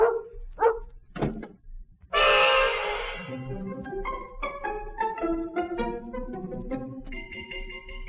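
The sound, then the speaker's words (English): A large 130-pound Alsatian named Bruno gives three sharp, separate barks, then a sudden loud crash gives way to swelling, tonal music. “So there I was, left with 130 pounds of sensitive Alsatian”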